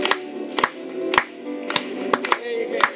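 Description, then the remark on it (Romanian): A crowd claps in unison for Jesus during a Christian worship song, sharp, bright claps landing about twice a second over sustained singing and music. “Hai să batem din palme pentru el.”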